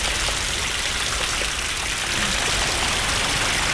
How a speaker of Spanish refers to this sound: ¡Está lloviendo mucho! Bueno, yo estoy aquí bien cubierta. Hay una gotera por ahí. ¡Tanta agua!